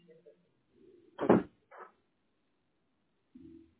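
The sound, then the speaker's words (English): A solid thud as a door swings shut, followed a moment later by a softer knock or latch click, then a faint low rumble near the end. No talking. “Shut the door. Shut the door for now.”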